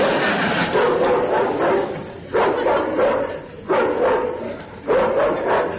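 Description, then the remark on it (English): Recorded dog barking plays from a home burglar alarm system: four loud, evenly spaced barks over a steady background hiss, with a thin, tinny, loudspeaker-like quality. “Sounds like a sweet old dog to me.”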